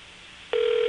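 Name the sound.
telephone keypad dialing tones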